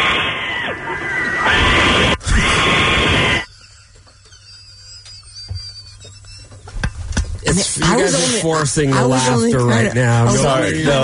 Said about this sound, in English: You hear that? It's the same. It's the same note. That's the goat. This is the goat.